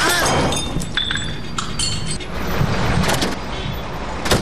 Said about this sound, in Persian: تو چی کردی؟ زدی چراغ موترم میده کردی؟ چشم نداری؟